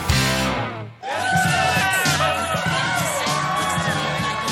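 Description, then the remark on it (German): A loud crowd cheers and claps without letup, with high-pitched squeals and whoops rising over the din; a brief lull near the start before the noise surges back. “Es wird gejubelt und geklatscht und gequiekt, was das Zeug hält.”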